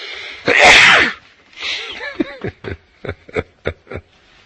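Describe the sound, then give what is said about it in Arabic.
A loud sneeze bursts out, followed by a softer second burst and then a quick string of short, breathy catches and sniffs. No talking. “الحمد لله كل اللي قالوا لي يرحمكم الله يهديكم الله ويصلح بالكم، يا رب يهديكم ويصلح بالكم ويحبكم ويرضى عنكم ويستركم ويعفو عنكم، جزاكم الله خيرا.”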